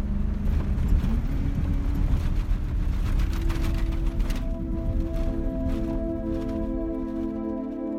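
A 4x4 truck's engine roars and revs loudly as it drives over roadless sand dunes, making several attempts, the pitch climbing and then holding steady under a continuous churning rumble, with no voices.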